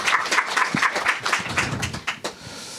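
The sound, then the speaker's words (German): A church audience claps in a dense, steady burst of applause given to the whole audience, which keeps going for a couple of seconds before thinning out and fading near the end. Nobody speaks over it. “Ich glaube, hier in dem Moment kann man doch mal der ganzen Gemeinde einen Applaus geben.”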